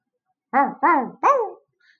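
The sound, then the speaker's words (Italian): A dog barks three times in quick succession, each bark short and tonal with a slightly whiny edge, fairly loud against a silent background. “Ascoltando il discorso di un cane e un gatto che passavano lì vicino, decise di andare in città.”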